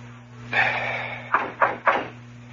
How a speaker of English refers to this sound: Okay, knock. Oh, I listen. Go on, knock.